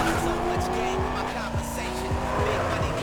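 A car engine roars loudly and steadily at high speed, with tires squealing and skidding through the whole stretch, as the driver tries to lose a pursuer named Rollie. Faint voices may sit underneath.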